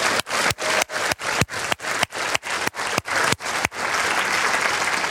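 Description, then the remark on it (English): An audience at a church service claps hands to the Lord in a steady, quick rhythm, about a dozen loud unison claps, then dissolves into continuous scattered applause. No one speaks. “Let's clap our hands to the Lord.”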